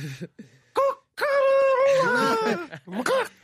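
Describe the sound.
A person imitates with their voice the crowing of roosters heard at about 4:30 a.m. while camping: a couple of short voiced yelps, then a long, loud, sustained cry that bends downward, ending with a brief rising whoop.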